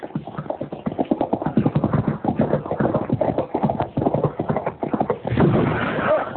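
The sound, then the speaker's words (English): Rapid, steady clip-clopping of horse hooves, fairly loud, continuing for several seconds before giving way to a brief rush of rougher noise near the end. “Jumped off his horse and ran behind that piece of down timber.”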